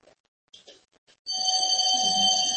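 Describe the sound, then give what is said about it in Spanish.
After a moment of faint speech, a building's doorbell buzzer sounds as someone rings it, a loud, steady, electronic tone that holds for over a second without a break. “Ya me están tocando el timbre.”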